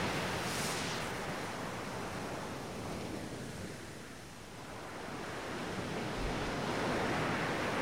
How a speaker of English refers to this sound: The smell of the sea becomes stronger and more invigorating. You walk down to the beach where the waves of water come and go and sit down in the sand.